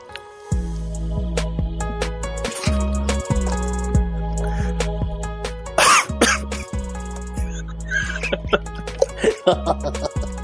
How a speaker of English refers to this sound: I couldn't hold it in, sorry. It was the loudest cough I've ever heard in my life.